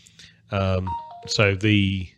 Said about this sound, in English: Nice little notification from my phone there.